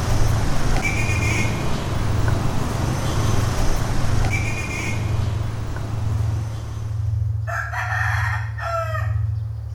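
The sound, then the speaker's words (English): City street traffic with the steady drone and buzz of motorcycles and mopeds passing, then the engines fade and a rooster crows loudly near the end. “Motorcycles and mopeds and more motorcycles.”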